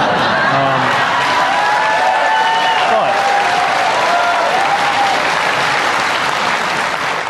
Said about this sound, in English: Having won huge applause twice, Buttigieg then pivoted into actual bread and butter issues like wages and healthcare, drawing a serious distinction between Republicans and Democrats.